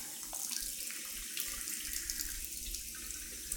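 Steady rush of shower water running continuously while rinsing hair before shampooing, a broad hissing spray with a low rumbling undertone, no voices, holding an even level throughout.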